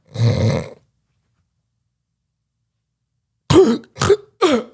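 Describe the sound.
A person vocally imitates sleep apnea snoring: one long raspy snore, a stretch of silence, then three sharp choking gasps in quick succession, fairly loud.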